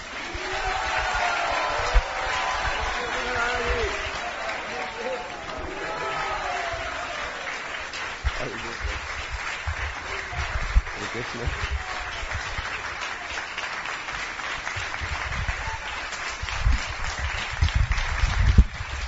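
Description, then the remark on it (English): An audience applauds in welcome for His Holiness Sachinanda Maharaj, a dense, steady wash of clapping that holds for about twenty seconds, with scattered cheers and voices mixed in, swelling slightly toward the end. “And without further delay, now we like to hand over to His Holiness Sachinanda Maharaj, and I think we can offer a big applause of welcome.”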